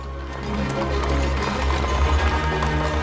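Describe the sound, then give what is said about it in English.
A horse-drawn carriage rolls through the deserted cobbled streets of a city in the early morning, with faint snow falling; a steady clatter of hooves over the low rumble and rattle of wheels, continuous throughout. “A horse-drawn carriage is driven through the deserted cobbled streets of the city in the early morning.”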